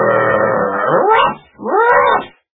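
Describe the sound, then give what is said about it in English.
An angry dog barks loudly twice at another dog in the water: a long, rough, growling first bark, then a shorter second one that rises and falls in pitch. There is no talking. “The dog got angry and barked loudly.”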